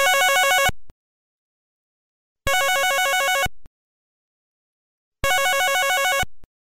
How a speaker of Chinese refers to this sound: … 啱啱讲完嘢，电话就响啦